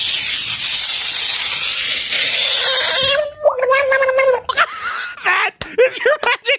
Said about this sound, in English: Now, frogs love the water, but he wondered what would happen if you picked up a screaming frog and put it in its water. Oh, no! How dare you? Sound of the week time, right there. Screaming frog in water.